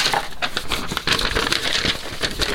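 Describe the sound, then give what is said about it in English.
A blank sheet of paper is crumpled, with a steady run of dense crackling and crinkling bursts lasting a couple of seconds, fairly loud and with no talking. “That's the piece of paper, but it's blank.”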